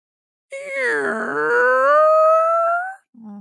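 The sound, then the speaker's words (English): A voice imitates a creaky door as a ghost story sound effect, with one long, drawn-out groaning creak, rough and wavering at first, then smoothing and rising in pitch. It is fairly loud, followed by a brief vocal blip. “Creaky door.”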